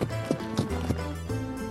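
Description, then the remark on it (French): A donkey's hooves clip-clop in a steady, even rhythm on a path as Saint Nicholas rides it toward the butcher's house, moderately loud, with a low sustained hum running underneath the footfalls. “Quelque temps plus tard, le grand Saint-Nicolas, chevauchant son fidèle âne, va passer sur le chemin qui menait à la maison du boucher.”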